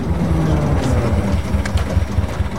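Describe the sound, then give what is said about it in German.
An old blue and yellow locomotive, rusted and used only as a museum piece, pulls into the station, its engine rumbling steadily with deep low-frequency chugging and faint metallic clanks and hisses layered on top. The noise is continuous, and nobody speaks. “Eine Lokomotive fährt ein.”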